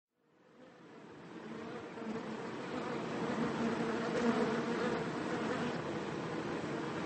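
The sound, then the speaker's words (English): A dense, steady hum of many honeybees buzzing together, swelling in over the first second and then holding a continuous droning swarm sound with no voices. “listening to the wisdom of honeybees for kinder beekeeping and a better world”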